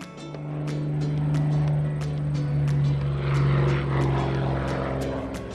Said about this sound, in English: The airplane is so high. 那架飞机飞得好高哦。 I wonder where it's going.